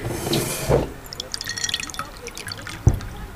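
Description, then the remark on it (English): Lime water being poured into a glass: a bubbly trickle and splash lasting a few seconds, framed by a couple of soft knocks, with no one speaking. “Look, this like lime water.”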